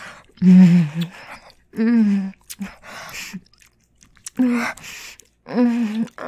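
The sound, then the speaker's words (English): A breathy voice lets out about five drawn-out moans, each followed by quick panting breaths, in a steady rhythm with short pauses between. “God, you're moaning and you're panting.”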